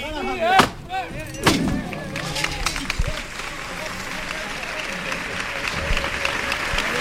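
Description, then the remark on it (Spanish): A crowd at a procession bursts into sustained applause for the lifting of the float (paso) and for the saeta singer, dense clapping spread across the scene with a few sharp louder claps near the start, steady and fairly loud throughout with voices mixed in. “Se aplaude la levantada, se aplaude la voluntad también del saetero, que no es fácil cantar una saeta.”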